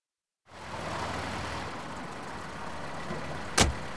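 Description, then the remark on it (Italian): A car engine idles steadily, left running while its driver walks away without switching it off, a constant low rumble after a moment of silence, with one sharp click or knock near the end and no voices. “Scusi, se ne va così senza spegnere il motore dell'auto?”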